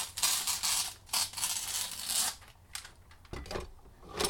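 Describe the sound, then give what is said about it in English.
Scissors snipping through packaging, a run of crisp, bright cutting sounds with faint rustling, followed by a few sharper snips and crinkles near the end; no one speaks. “And besides, it sounds all nice and ASMR-y.”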